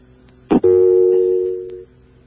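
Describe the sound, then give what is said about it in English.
A brief click of a button being pressed to call on a telephone line that has come back, then a single steady electronic line tone holds for just over a second before cutting off; fairly loud, with no voices. “You going to call it? The line's back again.”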